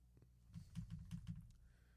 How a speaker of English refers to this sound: Keyboard. Sorry about that.